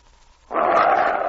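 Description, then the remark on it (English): A low, rough growl from Thunder, an animal shut in a pen, starts abruptly after a brief quiet moment and holds steadily, loud, with a raspy rumbling texture. “You're growling at me, eh?”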